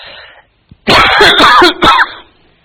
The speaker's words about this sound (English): Cover your mouth. Cover your mouth when you're coughing.